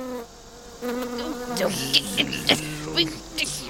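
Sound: bumblebee buzzing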